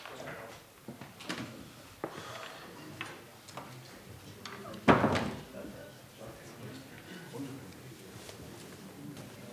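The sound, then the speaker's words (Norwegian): During a meeting, a door opens and shuts with a loud thump partway through as the mayor leaves, among scattered clicks and knocks, with faint murmuring voices. “Ja, og hvis nogen undrer sig over borgmesteren rendte ud af døren, så skyldes det, at han er inhabil i det, han har familie, der er jord i området.”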